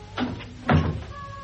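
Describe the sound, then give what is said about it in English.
A door being shut because of a draught: two soft, muffled thuds a half-second apart, the second a bit louder, followed by a faint high squeak as it settles. No one speaks. “I'll shut the door.”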